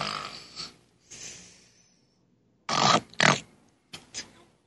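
person snoring

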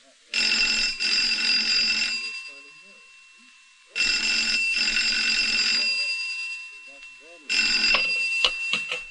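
telephone ringing

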